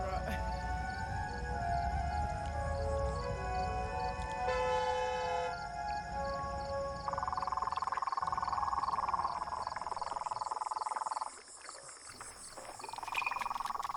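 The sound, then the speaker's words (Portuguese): A frog of the genus Rhinella calls in a steady, droning series, loud, the sound heavily echoing and hollow as it resonates inside a pipe, with a brief drop near the end. “Já vi muitos deles vocalizando dentro de canos, em galerias de chuva. Isso faz com que o som dele fique com bastante eco, assim.”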